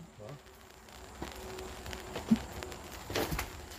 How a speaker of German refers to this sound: mittlerweile regnet es. Ich werde mal ein bisschen die Regentropfen vom Geräusch her und auch von der Stimmung her einfangen.